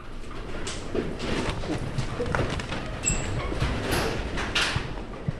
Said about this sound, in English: As the building started to violently shake, we ran out to the street. Debris was raining down from the church next door. The Red Cross on the roof waved wildly with the tremors.